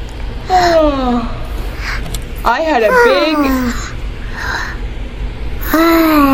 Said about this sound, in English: I had a big yawn. What did I have? A big yawn.